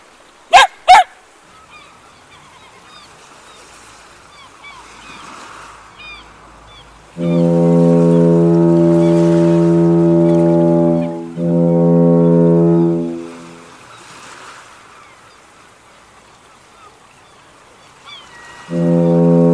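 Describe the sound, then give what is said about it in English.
A deep, loud foghorn in a city by the bay blasts twice in long sustained tones as the marine layer thins, the second shorter, with a third starting at the end; a couple of sharp clicks precede it and soft ambient noise fills the gaps. “Foghorn bleated yet again as the marine layer was thinning.”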